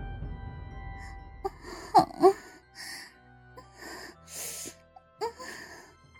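Heavy, breathy panting from a man and a woman having sex in a large changing room, broken by sharp gasps and soft moans in irregular bursts, fairly quiet, with no talking.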